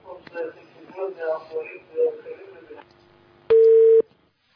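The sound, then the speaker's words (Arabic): A single loud, steady telephone line tone sounds for about half a second after muffled phone-line voices and a faint hum, as a caller's phone call cuts off; then the line goes silent. “يبدو أن الاتصال انقطع أحبتي الكرام الأخيار.”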